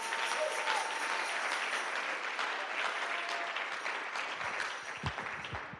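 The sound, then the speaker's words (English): An audience claps hands to thank God for a preacher, a dense, steady wash of applause that holds fairly loud throughout, with a few low thumps and scattered voices near the end. “Oh, can you clap your hands and thank God for a preacher?”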